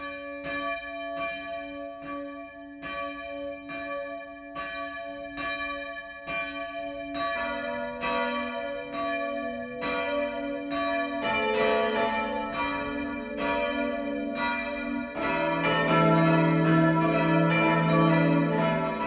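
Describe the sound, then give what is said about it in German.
Church bells in the village of Heustreu in Lower Franconia, Germany, ring the midday chime, one bell tolling in steady, rhythmic strikes before more bells join in, swelling into a loud, full, overlapping peal with no voices. “Das Mittagsläuten kommt heute aus dem Dorf Heustreu im unterfränkischen Landkreis Rügen-Grabfeld.”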